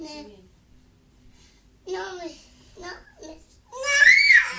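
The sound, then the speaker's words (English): A toddler girl whines and cries in short, high-pitched bursts, building to a loud, shrill scream at the end. “No screaming, please.”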